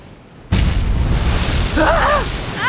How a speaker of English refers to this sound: Ouch! What happened? Ladies and gentlemen, we're in trouble. The ship hit a rock. This ship is going down soon.